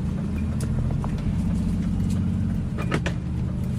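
car driving

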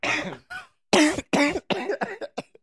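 person coughing

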